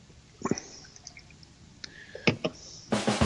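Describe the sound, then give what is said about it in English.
Beer from a pint can, brewed in Ireland by Guinness, pours into a glass with sloshing, dripping splashes and a rising gurgle toward the end, recorded alone without talk. “But let's pour it and see what we got.”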